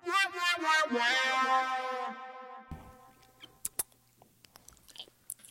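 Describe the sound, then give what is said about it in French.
A long, whiny vocal wail fades out, then chewing of a piece of cheese takes over: scattered soft, wet mouth clicks and smacks at an irregular pace. “Il était bon le fromage, j'arrête de chialer.”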